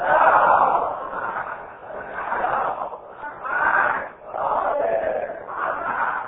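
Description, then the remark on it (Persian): A crowd recites a salawat blessing in unison, a continuous chanted murmur of many voices rising and falling in several phrases, moderately loud with an echo. “حالا یه صلوات بفرستیم.”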